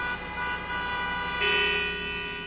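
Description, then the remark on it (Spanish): Car horns honk in a traffic jam, sustained overlapping tones with one horn blaring louder midway through, set against a steady hum of idling engines. “Hay una presa de carros que no es jugando.”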